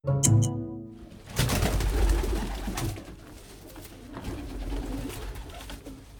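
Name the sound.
pigeons cooing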